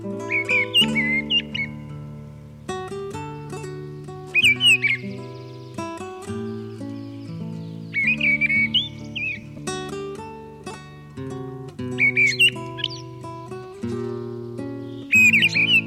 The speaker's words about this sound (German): Das war die Misteldrossel.